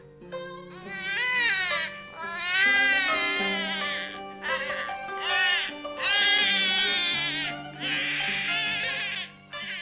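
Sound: young child crying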